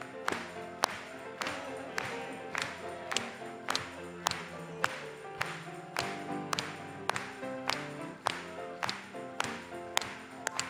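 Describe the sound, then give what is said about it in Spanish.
A church audience claps together in a steady, even rhythm, about two claps per second, over sustained musical tones of a Spanish-language hymn. The clapping stays loud and regular throughout, with no voices standing out. “Vamos a aplaudirle.”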